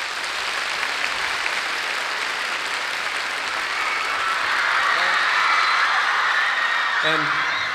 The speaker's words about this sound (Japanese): We'd like them to give a large round of applause to our Japanese brass section. Yes. そして、この公演に参加してくれた日本の4人のミュージシャンに、拍手を送ってくださいということでございます。